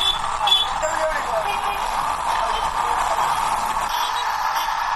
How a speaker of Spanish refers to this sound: En toda Villa El Salvador escuchas música y los autobuses, los coches y los mototaxis dan un concierto de los claxons.